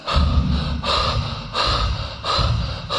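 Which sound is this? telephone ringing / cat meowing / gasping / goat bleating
gasping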